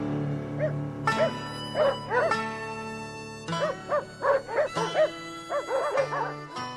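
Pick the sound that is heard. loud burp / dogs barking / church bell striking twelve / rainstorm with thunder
dogs barking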